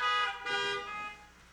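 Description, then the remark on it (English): Several car horns blare together in a brief, overlapping burst, loud and sustained with bright harmonic tones, then fade out within about a second and a half. No one speaks. “honk if you can hear me in your cars.”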